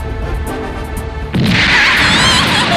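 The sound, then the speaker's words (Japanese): A sudden, loud blast bursts in over a steady background hum and then swells into a sustained roaring crash, like a cannon firing. “なんで大砲が？”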